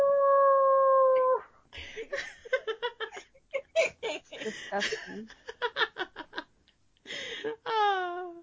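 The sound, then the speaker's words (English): A coyote chorus: a steady, drawn-out howl, then a rapid burst of high yips and barks, ending with a falling, wavering howl. Loud, with no voices. “Can we get a coyote sound?”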